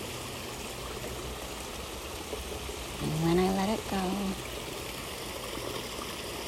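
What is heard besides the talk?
creek water flowing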